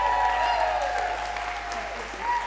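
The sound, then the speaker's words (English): A live audience at a storytelling event at Frontier in Brunswick claps steadily and fairly loudly for a couple of seconds for the night's last storyteller, a dense wash of hands with a faint tonal hum beneath it. “Please keep the applause coming”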